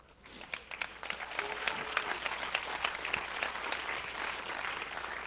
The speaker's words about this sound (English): I appreciate that you would clap over something like that, but I was actually mad.